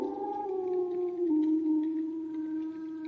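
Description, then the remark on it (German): A wolf lets out one long, sustained howl, holding a steady tone that dips slightly partway through. It stands alone with no voices, clear and moderately loud. “Oder war es doch ein hungriger Wolf auf der Jagd?”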